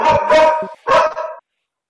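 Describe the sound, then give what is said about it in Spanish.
A police dog barks loudly, two harsh barks in quick succession, the first drawn out and the second shorter, followed by silence. “Ya venía de la policía canina.”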